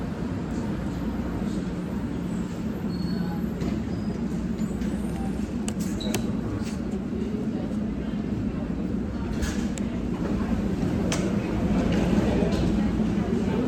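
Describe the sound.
An airport shuttle train rumbles into the platform, a steady, heavy low roar with occasional metallic clicks and squeaks, growing slightly louder near the end, with indistinct voices faintly underneath.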